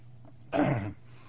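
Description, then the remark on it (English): A single rough throat clearing that breaks into a short cough, fairly loud, lasting under half a second against a quiet hum with no talking. “I didn't have this cough during all the song service. I don't know where it came from.”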